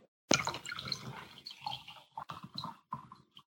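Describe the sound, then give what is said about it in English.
Beer pours into a glass, starting with a sharp splash and fizzing hiss, then breaking into a run of uneven gurgling glugs that fade away. “Sorry, I'm refreshing my beer.”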